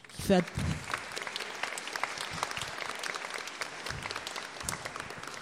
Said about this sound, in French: Je remercie beaucoup nos auteurs qui ont vraiment nous ont apporté énormément ce matin. Je vous demande de les applaudir, bien sûr. Et puis d'applaudir aussi notre traductrice-interprète